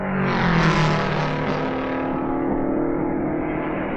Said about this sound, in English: And there it is! There it is! Sam Hanks gets the checkered flag. Sam Hanks in car number 9, the Belmont Exhaust Special, comes through with a tremendous victory. The checkered flag is his.